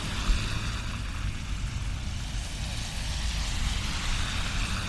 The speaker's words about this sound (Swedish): Jag står och väntar på att det ska bli grön gubbe. Då åker en spårvagn förbi.